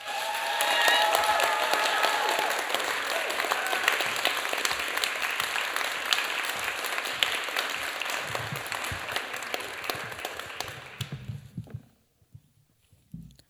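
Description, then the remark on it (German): A crowd applauds steadily for about eleven seconds, welcoming the last female competitor of the first preliminary round onto the stage, a dense wash of clapping with a few whistles early on, then it fades out quickly into near silence with faint movement. “Dann würde ich sagen, holen wir die letzte Starterin der ersten Vorrunde ans Mikrofon, klatscht sie mit einem 10-Punkt-Applaus hier auf die Bühne.”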